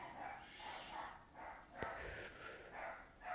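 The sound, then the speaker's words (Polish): A small dog behind a fence yaps repeatedly, faint, high-pitched barks coming in a steady series of short bursts, with one sharp click partway through. “To malutki piesek za płotem.”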